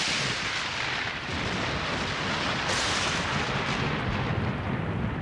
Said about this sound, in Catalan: Som dins de la tempesta, ja